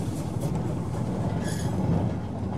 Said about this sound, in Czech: Počkali, až kolem nich přerachotil osobní vlak.